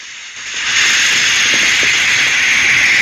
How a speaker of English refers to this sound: Snake shoots the tank on the contraption, which then spews forth clouds of steam.